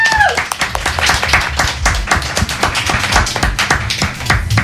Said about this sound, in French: Et pour ça, messieurs, dames, on peut l'applaudir encore une fois.